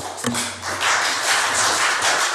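Steady applause fills the statenzaal, a Dutch provincial council chamber, after a speech, a dense crackle of many hands clapping at an even loudness, with no voices over it. A single sharp knock comes just before it swells.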